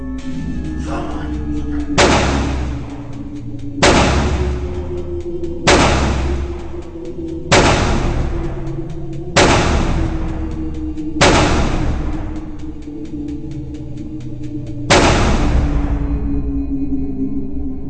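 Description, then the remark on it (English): A series of about seven loud, booming explosion-like blasts, each with a rumbling decay, spaced roughly two seconds apart with a longer pause before the last one; no voices. Theatrical explosions heard in the middle of a stage play, from a tape of a production at the Theater Project. “Let me just start with getting our listeners this kind of explosion that comes in from this play that happens in the middle of the play.”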